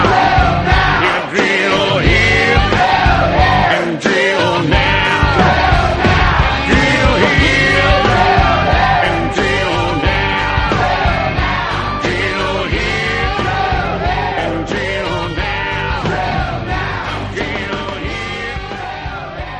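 A country song plays loud and full, with a chorus of voices shouting together over driving guitars and a steady beat, easing slightly in volume toward the end.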